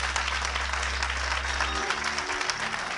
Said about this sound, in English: If you love God, come on, give him a hand clap. Amen.